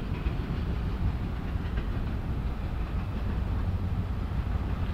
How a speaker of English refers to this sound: Let's listen to the train as it wails past us. Yeah, those look like empty garbage containers. Empty garbage containers passing right by. How exciting. Yeah. Only two diesels hauling this thing, so it can't be that big.